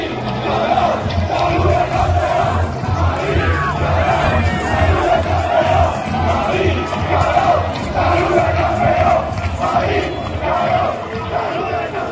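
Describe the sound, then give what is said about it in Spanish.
A large crowd of Barça football fans at a celebration party chants loudly and continuously in unison, with chants aimed at Madrid. The sound is a dense roar of many voices with rhythmic swells, steady throughout. “Y evidentemente, en una fiesta de celebración del Barça, no podían faltar los cánticos dirigidos a Madrid.”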